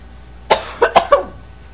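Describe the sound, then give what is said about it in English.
A short burst of four coughs in quick succession, the first and third sharpest, fairly loud, with no talking. “Over time, well, let me try a cough drop.”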